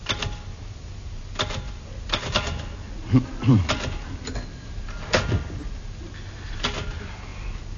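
Irregular clacking of typewriter keys as Bill Kerr, wearing gloves, types out party invitations in Tony's flat in London's West End. Sharp strikes come unevenly across several seconds, with a low hum underneath and a brief murmur of voice partway through.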